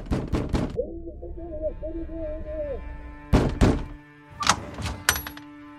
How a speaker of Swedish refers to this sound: Men innan hennes önskningar hinner uppfyllas knackar en tysk soldat på dörren.